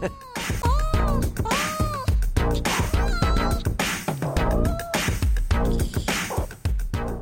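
A cat meows out a sung verse in a string of drawn-out, rising and falling meows, riding over a loud, busy band backing with steady drums.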